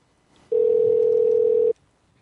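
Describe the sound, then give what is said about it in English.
A steady, loud telephone dial tone hums at a single low-mid pitch for just over a second as a call to a collections office is placed, then cuts off abruptly, with faint background noise before and after. “Let's give them a call.”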